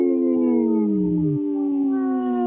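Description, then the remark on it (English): Human voices imitate a wolf howl: long, loud, sustained tones that overlap, one sliding downward and breaking off partway while the other holds steady to the end, as a call for Howling for Wolves, a group protecting wolves, on Native Roots Radio. “This portion of the show is brought to you by Howling for Wolves, protecting wolves for future generations.”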